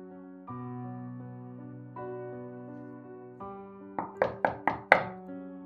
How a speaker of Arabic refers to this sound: الساعة 3:52 دقيقة، دقات على الباب صحتني من النوم. كنت متأكد انها هي.